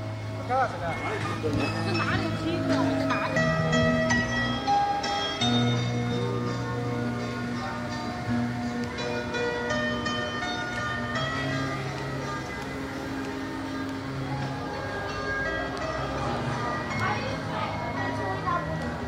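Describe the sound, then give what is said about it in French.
Fangbanglo street, a tourist street in the old town of Shanghai, China, in 2017, walked along: a steady mix of crowd chatter and children's voices, while a melodic tune plays continuously over the bustle at a fairly constant level. “Je marche rue Fangbanglo à Shanghai.”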